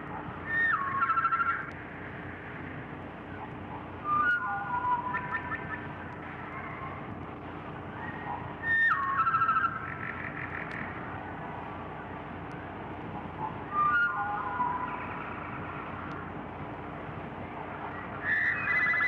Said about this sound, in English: Here is how the wood thrush sounds to other birds.